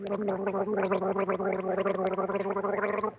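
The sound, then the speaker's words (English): A person imitates a nightingale's song with a continuous, loud warbling trill lasting about three seconds, the voice rapidly wobbling in pitch with a gurgling, gargle-like quality. “Oh, but I was making the same sound as the nightingale.”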